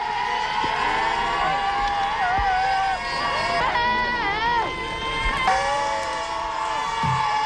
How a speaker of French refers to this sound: Le véritable héros de cette délégation, acclamé par des petits supporters déchaînés lorsqu'il est descendu du bus.